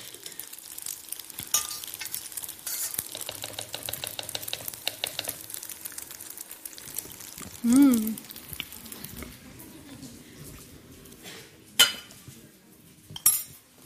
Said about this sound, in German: Das Ganze da umfüllen. Wenn ich es nicht im Topf lasse, dann hat es auch den Vorteil, dass es schneller auskühlt.